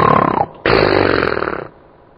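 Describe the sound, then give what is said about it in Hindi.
A voice imitates a man snoring in his sleep in a movie theater with two loud, rasping, throaty snorts, a short one then a longer drawn-out one, coarse and buzzing with a rough rattle. “बस नींद में घुर्राटे शुरू कर देते हैं सो जाते हैं।”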